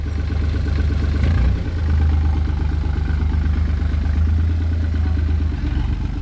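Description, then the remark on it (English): Car engines idle with a steady, throbbing low rumble, briefly shifting in pitch as the cars are moved out of the way so others can get out quickly, with faint mechanical clatter and no voices. “Move the cars so they can get out of here quickly.”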